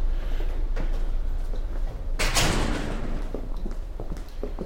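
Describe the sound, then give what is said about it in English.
A heavy security gate, one of a series of gates, rumbles as it slides along its track, with a loud metallic rush and clunk partway through and scattered clicks around it, without talk. “I have to say, it looks a bit like a prison. There's a series of gates.”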